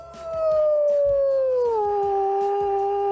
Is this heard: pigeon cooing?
no